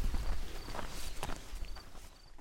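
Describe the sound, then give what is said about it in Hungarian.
Footsteps of people walking outdoors beside a barley field under a clear blue sky, a steady crunching shuffle of several treads on a path, with faint background ambience and no speech. “A zöld a árpa, amelyik itt van mellettünk, egy árpatábla mellett gyalogolunk.”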